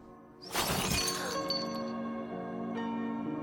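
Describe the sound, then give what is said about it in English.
A drinking glass on a table shatters with a sudden loud crash as a young bearded man with long hair points his finger at it, followed by bright tinkling of shards settling, then a second faint clink near the end; no voices. “a young bearded man with long hair, points his finger at a glass on the table and makes it shatter.”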